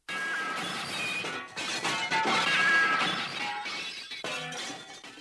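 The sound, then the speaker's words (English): A loud crash as something smashes into a glass partition, followed by several seconds of shattering and tinkling shards scattering and settling, with no voices. “glass partition.”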